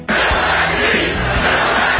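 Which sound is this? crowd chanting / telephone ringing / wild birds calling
crowd chanting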